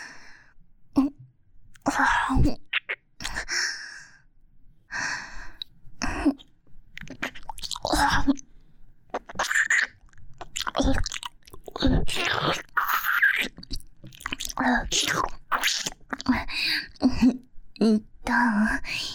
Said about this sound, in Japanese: 気持ちいい？しっとり濡れた柔らかい舌で耳を舐めしゃぶられるの。プルプルの唇で耳たぶを甘噛みされたり、ベロの先っぽでくすぐられたり